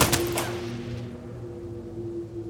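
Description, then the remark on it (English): A rapid, thunderous burst of gunfire aimed at a Ford car as it rolls toward the side of the road, heard miles away: several sharp shots cracking in quick succession, then a rolling echo that fades into a steady low rumble. No voices. “Thunderous gunfire is heard miles away.”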